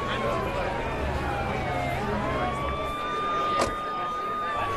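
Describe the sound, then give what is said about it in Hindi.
An ambulance siren wails steadily in slow rising and falling tones as the ambulance arrives, over a noisy street with a murmuring crowd and indistinct voices. “देखिए एम्बुलेंस आ गई जनाब, एम्बुलेंस आ गई, वहाँ ले जाइए, वहाँ ले जाइए, धीरे धीरे ले चलो।”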